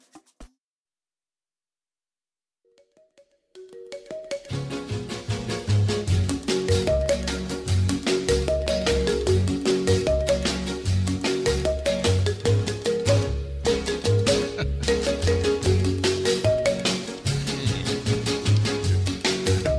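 After a few seconds of silence, a bouncy instrumental pop tune plays on the radio, kicking in loud and steady, with plinking keyboard notes over a driving bass and percussion beat, no vocals.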